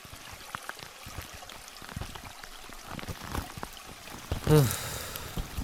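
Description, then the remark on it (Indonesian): Water trickles and gurgles steadily, a small river running over stones, sheltered by large trees and steep banks, with a brief louder splash near the end. “Letak sungai itu tidak jauh, tapi terlindung dari pepohonan besar dan curam.”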